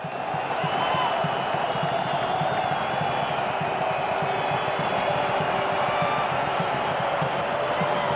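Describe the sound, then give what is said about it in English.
A large stadium crowd at Parken applauds steadily for the full stretch as the Denmark football team re-emerges onto the pitch, applauded back by their opponents, led by the Finland team; a dense wash of clapping with a roar of cheering underneath, holding at an even, loud level throughout. “So they were applauded back onto the pitch by their opponents, led by the Finland team.”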